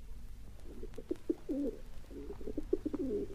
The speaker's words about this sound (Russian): Последним на голубятню явился большой неповоротливый сизый голубь